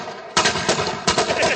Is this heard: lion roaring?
no